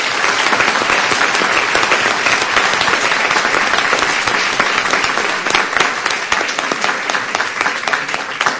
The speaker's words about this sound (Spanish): Así que, para él, un fuerte aplauso.